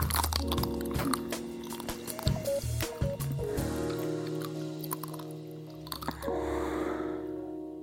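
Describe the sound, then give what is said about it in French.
Crisp crunches of someone biting into a chocolate-coated ice cream bar, several crackly bites and chewing sounds over about eight seconds, with a steady musical drone underneath and no talking. “Et si vous cherchez d'autres spots sur YouTube, par exemple, vous trouverez des femmes, beaucoup de femmes croquant goulûment dans leur esquimau, les yeux fermés.”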